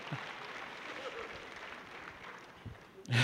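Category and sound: crowd, applause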